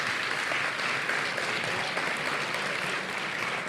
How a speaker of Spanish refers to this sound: los nominados en esta categoría son Entiende tu mente, Sobre perros y gatos y Te invito a un café. Un aplauso. Un aplauso a los nominados.